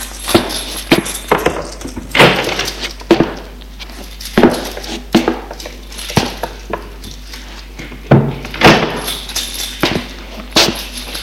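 apartment door being opened

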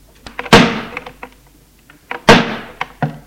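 car door slamming shut

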